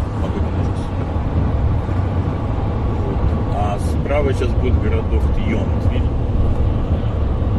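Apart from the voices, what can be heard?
car interior noise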